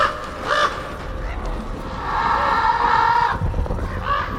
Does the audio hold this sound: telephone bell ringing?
no